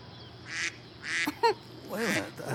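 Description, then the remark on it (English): A duck quacks several times in short, nasal bursts from somewhere on a Moses display, moderately loud, with brief gaps between calls and a faint background hum. “There's a duck somewhere on the Moses display.”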